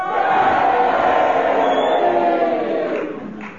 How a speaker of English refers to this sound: If you agree with Kenneth Williams, would you cheer for him? If you agree with Magnus Pike, would you boo for him? And will you all do it together now?